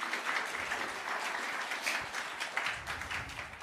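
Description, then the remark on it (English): A crowd claps steadily for helpers in a dense, sustained burst of applause, many hands patting together at once, moderately loud and continuing throughout without any voices rising above it. “Round of applause for them.”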